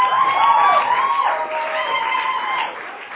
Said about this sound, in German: Jubel also gestern Abend in der Drachengasse.